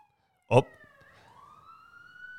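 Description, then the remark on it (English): A sudden short burst gives way to an emergency siren's rising wail outside in downtown Los Angeles, its tone climbing slowly and steadily, with faint street rumble beneath. “And if you hear a siren out there, folks, we are in DTLA, baby.”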